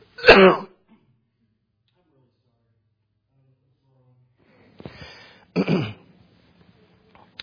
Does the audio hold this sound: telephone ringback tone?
no